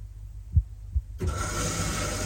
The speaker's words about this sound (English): Success! This is the washing machine starting, and once it's finished, I get a handy notification on my mobile phone that tells me that my washing machine has finished.